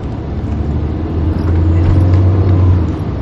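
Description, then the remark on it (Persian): A car engine revs with a deep, steady rumble, its low drone rising and holding loud for a couple of seconds before easing slightly. “خب ظاهرن این ماشین هستیم گاهی بالا پایی میشه و قطع میشه.”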